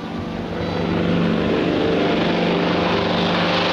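A propeller airplane, the plane to Lisbon, drones overhead, its engine swelling quickly into a loud, steady roar that holds with a throbbing, buzzing tone. No one speaks.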